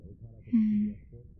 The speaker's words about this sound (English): Oh, another yawn.